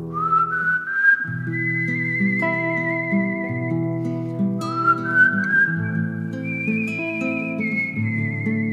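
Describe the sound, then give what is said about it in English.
A person whistles a clear, high-pitched melody, sliding up into long held notes, over a steady bed of sustained, lower instrumental accompaniment. The whistling stays bright and prominent throughout. “The clear, high-pitched melody you just heard was not a bird. That wasn't a flute. That was a whistler.”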